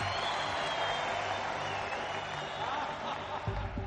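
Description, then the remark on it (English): An audience applauds steadily to welcome Glimmer, a dense wash of clapping and crowd noise holding at an even, fairly loud level for several seconds without letting up. “Let's have a warm round of applause for Glimmer!”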